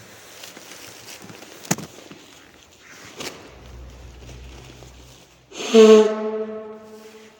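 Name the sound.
blowing one's nose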